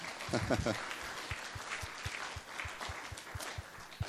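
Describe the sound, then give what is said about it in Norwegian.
A church audience at a service claps together for its recent 30th anniversary in a steady, dense patter of applause, with a few low rhythmic thumps running beneath, and brief voices murmuring at the start. “Det ikke dårlig det, vi kan jo gi en klapp for det, det jo lov å klappe her.”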